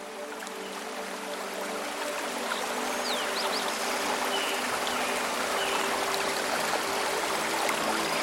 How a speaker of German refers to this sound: Der Bach ist Teil eines größeren Flusssystems, das die Wicklow Mountains durchzieht und einst genutzt wurde, um kleine Siedlungen mit frischem Wasser zu versorgen.